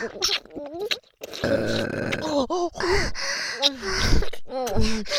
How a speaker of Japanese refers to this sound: お下品ゲップもっと聞いて